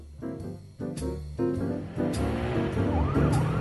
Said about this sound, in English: I drove her directly home, hurriedly bypassing the black and whites that swept up Sepulveda, sirens singing.